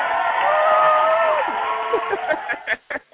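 A few voices cheer and whoop in sustained, rising tones to celebrate a man's 50th birthday, followed by a short burst of scattered clapping that quickly fades out.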